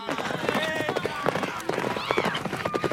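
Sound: horses galloping away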